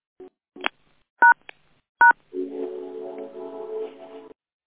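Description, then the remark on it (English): A handful of short phone keypad beeps, spaced unevenly and fairly loud, as the phone lines of a call are muted, followed by a longer buzzing, wavering tone that holds for a couple of seconds before cutting off. “Take a deep breath in as I mute the phone lines for our daily affirmation and Buddhist meditations.”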